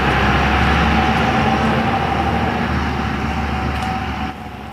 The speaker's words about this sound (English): That noisy truck is a... like a Ford diesel Ford F-250 or something. It was ridiculously noisy.